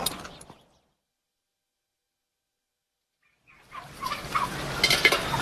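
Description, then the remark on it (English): Farm birds calling on a farm in a loud, busy burst after a stretch of silence, with a brief cluster of clucks and gobbles at the very start. “Don't do the birds no good having strangers look after them.”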